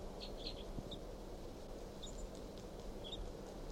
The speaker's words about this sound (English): Start recording 8:03, and this wild bird, male, is low in this pine, looking down at the decoys. And this is him chirping very softly.